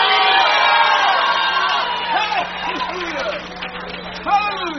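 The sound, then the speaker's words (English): An audience shouts "hallelujah" and cheers loudly together, many voices overlapping in a sustained roar of whoops and cries that fades slightly before a fresh burst of shouting near the end. “Oh, come on, scream hallelujah.”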